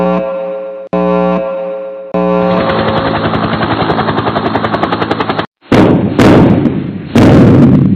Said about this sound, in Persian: انفجاری رخ داد، خانه لرزید، اما دلم از آن بدتر.